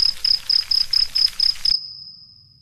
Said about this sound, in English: And the first thing that happens is that all the crickets come.